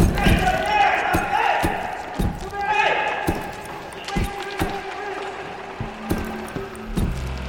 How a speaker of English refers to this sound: Yeah, we have the sound of old school flash photography.